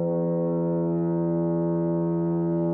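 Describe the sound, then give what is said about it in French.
A foghorn blows one long, steady, deep tone that holds for several seconds without a break, loud and droning with rich layered harmonics and no voices. “C'est donc une corne de brume.”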